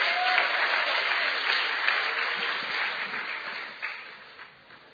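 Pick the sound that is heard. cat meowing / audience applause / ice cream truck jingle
audience applause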